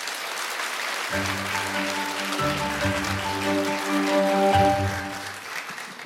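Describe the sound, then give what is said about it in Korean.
An audience applauds steadily for several seconds to welcome author Lee Ji-sung's lecture, a dense, even clatter of many hands, while upbeat music with sustained tones starts playing underneath about a second in. “이지성 작가님의 강연 박수로 청해주세요.”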